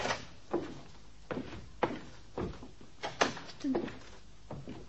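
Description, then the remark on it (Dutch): A door is opened into a very large room in a building with many rooms and doors, with a series of wooden clunks, scrapes and creaks spread unevenly over several seconds, no voices heard. “Er zijn zoveel kamers hier. Al die deuren. Ja, goed, laten we hier maar eens binnenkijken.”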